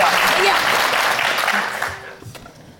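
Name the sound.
group applause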